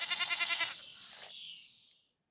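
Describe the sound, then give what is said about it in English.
A sheep bleats once, a loud, wavering baa with a quick tremolo that trails off into a thinner, breathy tail before falling silent. “Lo, father, I have brought here full smart this gentle sheep and him you I give.”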